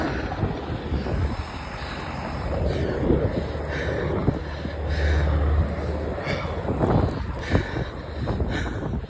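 Helicopters fly overhead with a steady, deep rotor rumble beneath a broad, wind-like roar that swells and eases slightly over several seconds. No one speaks.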